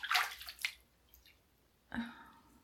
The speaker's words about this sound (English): Scooping some up and dripping it down my chest. Watching the drops fall.